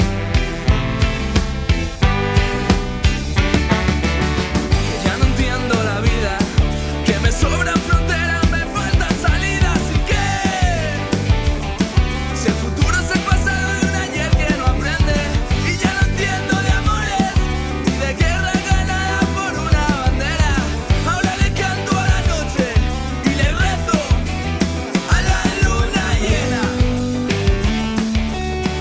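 A full-band rock song plays loud and steady, with driving drums, dense guitars and bass, and a sung vocal line winding over the top throughout. It is a ska and pop rock song by a young band from Madrid, a finalist in Quack FM's 19th battle of bands.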